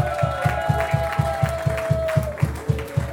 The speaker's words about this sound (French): Merci la belle Lurette, on peut applaudir la belle Lurette.